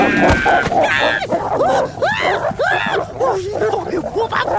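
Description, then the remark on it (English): A wolf in a mailbox growls and snarls, breaking into a rapid run of sharp, rising yelps and barks that repeat steadily for several seconds, loud and agitated throughout. “Why is there a wolf in my mailbox?”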